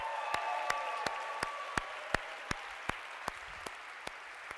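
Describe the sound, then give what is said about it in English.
Audience applause honoring a course's undergraduate head teaching fellows, a soft, steady wash with one set of sharp, evenly spaced claps standing out on top, fairly quiet with no talking. “if we could give them a round of applause”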